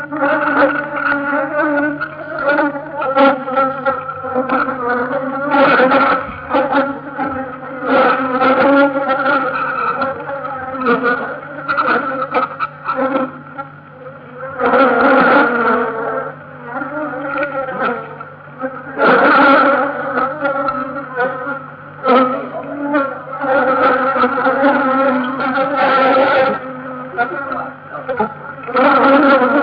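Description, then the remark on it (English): A dense, agitated buzzing of many honeybees from a colony opened without smoke, its brood box lifted and dropped, loud and continuous for the whole stretch, with a steady hum that keeps surging and swelling in waves. “And just for fun, when we'd finished the recording, we opened the colony without smoke, lifted the brood box, dropped it, and took the consequences, and this is what the microphone heard.”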